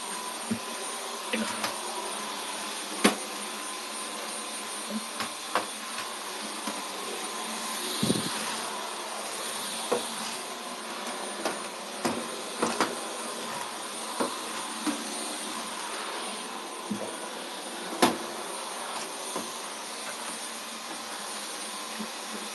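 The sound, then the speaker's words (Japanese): A vacuum cleaner runs steadily with a broad whooshing hum, punctuated by frequent brief clicks and bumps as it moves across the floor of a changing room after a bath, sucking up scattered hair. No one speaks. “これが嫌で、お風呂に入った後は、脱衣所にね、掃除機を絶対するの。だからちょっとそれをさせてもらいます。”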